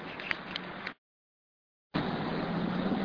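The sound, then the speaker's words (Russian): Steady, dense rumble of cars jammed on a bridge and unable to move on, a constant wash of engine and road noise that cuts out completely for about a second before resuming at the same level. “Гонители пешеходов, легковые автомобили столпились на мосту и не могут проехать.”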